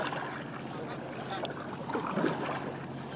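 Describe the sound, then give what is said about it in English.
Kayak paddling on the water of Cozy Cove, a small inlet on the east side of Lake Washington between Hunts Point and Yarrow Point, north of Bellevue, Washington state: soft splashes and lapping from paddle strokes over a steady, low wash of water noise, with a slightly louder swirl of splashes toward the end. “I've come to Cozy Cove. It's a little finger of water on the east side of Lake Washington.”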